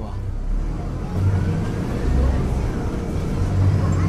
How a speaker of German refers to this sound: Der Bus verlässt Paraty auf der Bundesstraße BR-101 in Richtung Süden.